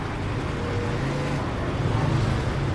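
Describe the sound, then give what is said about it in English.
A steady rumble of road traffic, low engine drone filling the background continuously with no distinct horns or voices standing out. “I mean, pretty much, because you want to keep your senses about you here with the way the traffic is and everything else.”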